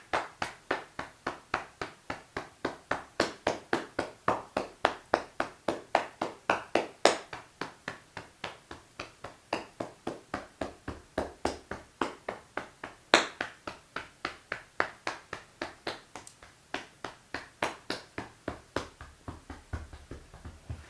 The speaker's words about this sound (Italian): E poi con la mano a pugno, iniziamo con la mano destra a pugno e picchiettiamo lungo il braccio sinistro. La parte esterna, quella interna. E poi col pugno sinistro sul braccio destro.